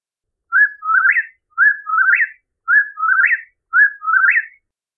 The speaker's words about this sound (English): Whippoorwill. The whippoorwill gets his name from the sound of his song. He sings for hours after nightfall and again just before sunrise.